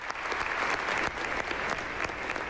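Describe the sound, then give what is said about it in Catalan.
Steady, dense applause from a large diocesan assembly at a Eucharist welcoming Francesc Conesa as the new bishop of Terrassa, many hands clapping continuously at an even loudness with no break, a broad crackling wash of claps throughout. “Escoltem els aplaudiments.”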